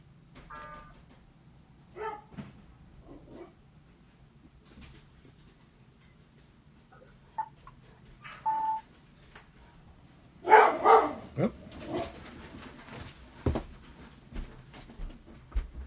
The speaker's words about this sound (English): If he barks, he has to be on camera.